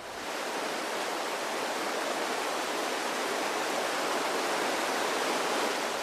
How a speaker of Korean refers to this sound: 그렇다고 단순히 길기만 한 해안선이 아니다. 철썩이는 파도를 따라 아름다운 모래 백사장과 구불구불 여유로운 해변이 끝도 없이 펼쳐진다.